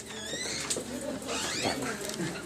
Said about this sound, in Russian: Так. Вот дверь открывается.